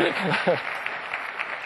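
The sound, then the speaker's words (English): An audience in Amsterdam claps in a steady, crackling wash of applause at moderate volume, with individual hand claps popping out. A voice speaks briefly over the start before the clapping carries on alone. “So obviously, they don't clap that loud in Orlando.”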